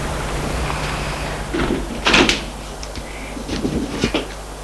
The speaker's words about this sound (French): Il sonne à la porte. La porte s'ouvre.